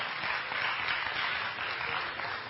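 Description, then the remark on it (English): A crowd applauds steadily, a dense wash of many hands clapping at an even, sustained loudness for a couple of seconds with no voices over it. “Let's see if you're still clapping when we're done.”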